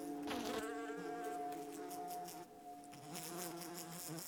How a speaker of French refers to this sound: C'est que des mouches domestiques, on en croise beaucoup. Partout.